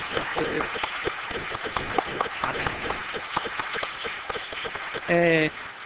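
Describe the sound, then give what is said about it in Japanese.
A church audience claps steadily in a dense, continuous patter of many hands, giving applause of blessing during a worship service, with a short burst of a harmonic tone, like a voice or instrument note, near the end. “そして皆さんどうぞ祝福の拍手を送りください。”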